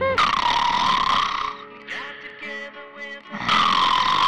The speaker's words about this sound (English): Okay, so I snore occasionally.